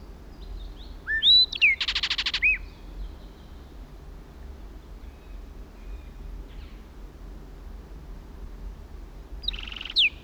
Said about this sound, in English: At last, a flight song. Now in another pine. 60 feet from original position. Kelp gulls in the background. Southern lapwings. Another blackbird joined it.